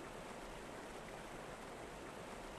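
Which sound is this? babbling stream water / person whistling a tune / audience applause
babbling stream water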